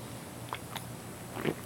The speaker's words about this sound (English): I'm going to open up this fine Modelo. This is my, I think this is about the 10th Modelo of the day. Let me take a sip of this fine Modelo. I will let you know how it is in a second.